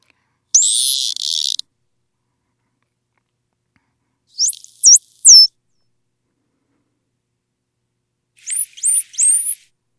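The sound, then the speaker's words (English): Three bursts of very high-pitched natural animal whistles, roughly 6 to 20 kilohertz, separated by silence: first a rising, buzzy sweep, then a quick cluster of three sharp upward chirps, and finally another fast trio of thin rising whistles. “We have three more of the natural whistles. Let's hear them and see how we can pick up on that, those cues you talked about.”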